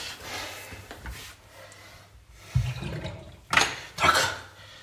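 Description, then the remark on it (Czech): Water drains away, a steady watery hiss punctuated by deeper gurgles and a couple of louder rushing surges toward the end, with no talking. “Vypustíme tu vodu.”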